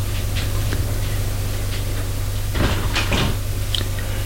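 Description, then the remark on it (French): A servant knocks on a door with a few soft wooden thuds, followed by the creak and clatter of the door being opened, all over a steady low hum with no one speaking. “Le domestique frappe à une porte et les fait entrer.”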